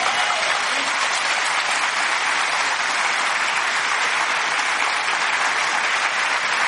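A crowd claps steadily and loudly for several seconds, a dense, continuous wash of applause with no speech over it.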